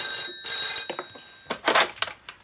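After the Queen dials a number on a mobile phone, the line rings with a high, electronic trill in two quick bursts, then stops, followed by a few short rustling, clattering noises.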